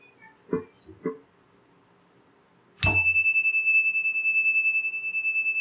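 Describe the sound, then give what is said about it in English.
A single meditation chime is struck after a near-silent pause with a couple of soft knocks, ending a moment of silent meditation, then rings on clearly, its bright tone sustaining with a gentle wavering shimmer. “I'll ring the chime and again end our embrace of silence.”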